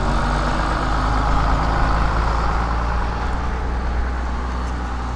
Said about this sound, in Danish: Du skal ikke bange, nu kommer gymnasiebussen.